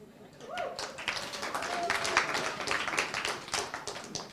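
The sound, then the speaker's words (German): An audience breaks into dense, steady applause, many hands clapping at once for a few seconds, with a faint voice or cheer briefly rising above the clatter. “Also ich mache die Arbeit, er kriegt den Applaus.”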